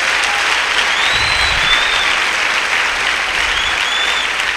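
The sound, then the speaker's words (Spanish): Sustained applause for God from a church audience, a dense steady clatter of many hands clapping at an even loudness for several seconds, with faint whistle-like tones drifting above it. “Bájela y dele un aplauso a él.”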